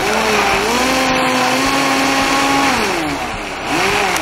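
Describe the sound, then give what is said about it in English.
A blender runs steadily for a few seconds, its loud motor whine holding a fairly even pitch with a slight dip near the end as it briefly blends a thick garlic dill sauce. No one speaks. “And I'm going to blend it just a touch, just enough to blend it through.”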